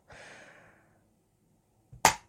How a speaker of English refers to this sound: Before slapping it over and over.